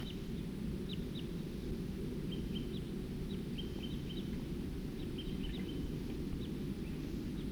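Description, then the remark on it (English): Short, high-pitched calls from a pair of type 2 birds flying over repeat in scattered pairs and bursts throughout, fairly faint over a steady, loud low rumble of background noise. No voices. “Here comes some more type 2 birds.”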